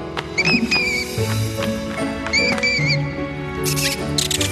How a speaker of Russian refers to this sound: Ведь ночью летучие мыши добывают себе пищу. Они уже просыпаются.